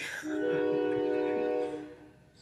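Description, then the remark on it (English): A train horn sounds, one steady, droning blast held for nearly two seconds before fading out, with no voices present. “So if y'all hear the train, we just on track, baby.”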